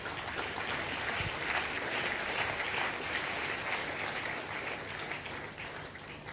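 A crowd in an auditorium applauds steadily, a dense crackle of many hands clapping at an even loudness for several seconds without a break, with no voices rising above it.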